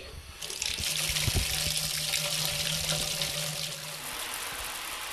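Hot water from a tankless water heater gushes steadily from a tap into a sink at home for a few seconds with a bright, hissing splash, then the flow eases off, leaving a low background hum.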